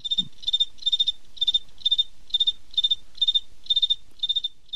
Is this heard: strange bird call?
no